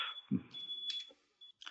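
A high, shrill electronic alarm tone sounds steadily for under two seconds, with short bursts of noisier beeping layered over it. No one speaks.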